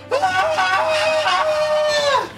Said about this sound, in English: But this looks like a true strike. She shrieks as her body begins rapidly changing forms.